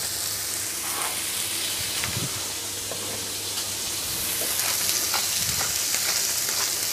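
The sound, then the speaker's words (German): Meat seasoned with salt and pepper sizzles steadily in a hot pan, a loud, continuous frying hiss dotted with sharp crackles and pops, with a faint low hum underneath and no voices. “Pfanne ist heiß, man hört's.”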